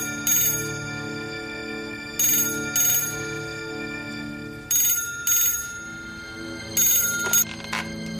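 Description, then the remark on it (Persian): A telephone rings in repeated short bursts of bright, trilling bells, each pair of rings separated by a pause, clear over a low steady hum, with no one talking. “عزیزم برو گوشی رو بردار. شاید پدرت باشه.”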